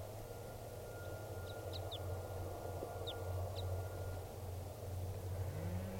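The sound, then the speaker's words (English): A few sparse, sharp high chip notes from a wild type 2 crossbill perched at the top of a tall tree, given singly and in a quick pair, over a steady low rumbling hum. “Bird's not calling very much, but that is him, the wild bird, type 2 there.”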